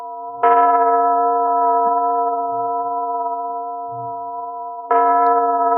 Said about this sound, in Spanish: Pero cuando Beethoven era niño, Bonn no pasaba de ser una pequeña población muy tranquila. Las campanas sonaban y su tañido se oía en medio del silencio.